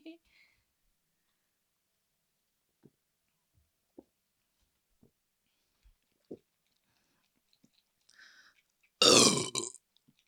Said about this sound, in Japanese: ゲップも出ちゃった。